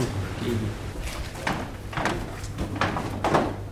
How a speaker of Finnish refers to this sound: Pumppu käy tuolta oven takaa, mutta mennään siitä.